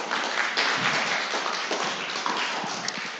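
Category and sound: crowd, audience applause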